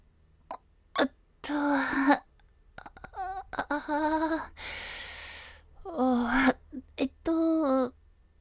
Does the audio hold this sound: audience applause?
no